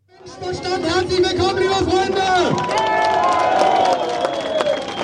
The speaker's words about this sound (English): A crowd cheers at an Alternative für Deutschland rally in the town of Querfurt. It's here in the region of Saxony-Anhalt that the far-right party's aiming to take power at a state level for the very first time.